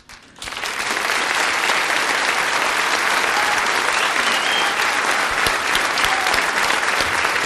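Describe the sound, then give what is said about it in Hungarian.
An audience breaks into sustained applause at the 1400th performance of a stage show, a dense, steady wash of many hands clapping at an even loudness for several seconds, with no speech over it. “Tulajdonképpen nekem kéne tapsolni”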